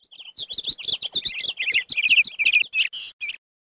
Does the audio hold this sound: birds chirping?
yes